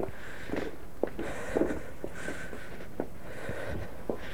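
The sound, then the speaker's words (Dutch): Footsteps walking at an unhurried pace around a villa, with a series of short, distinct thuds spaced about a second apart over a steady outdoor background hum. “We lopen nu om de villa heen.”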